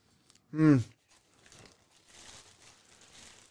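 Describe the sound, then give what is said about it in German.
A Beetle car being crushed into a cube at a scrapyard: a short, loud groaning squeal, then a long stretch of irregular crunching and crinkling metal, steady and moderately loud. “Jetzt wird der Käfer kaputt gemacht.”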